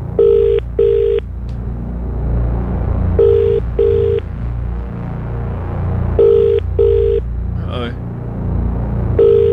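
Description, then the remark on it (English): A phone rings out in a steady double-burst pattern, repeating about every three seconds over a low, constant rumble, with a brief electronic chirp between rings, as an outgoing call is placed after the number is entered into the phone. “as I put the number into the phone here”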